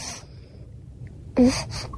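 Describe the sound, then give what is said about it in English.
A baby suckling at the breast, a few soft, breathy snuffling pulls, with one louder, wetter burst near the end and no talking. “Tell me there's not a breast in her mouth, dude.”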